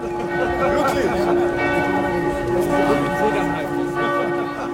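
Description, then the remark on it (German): Church bells ring to open a baroque music festival in Bayreuth, Germany, heard on the square before the margravial opera house on 4 September just before 6 pm, in a dense, overlapping peal, their sustained tones blending together at moderate volume, with a faint murmur of people underneath. “Glocken läuten zur Eröffnung des Festivals Bayreuth Barock.”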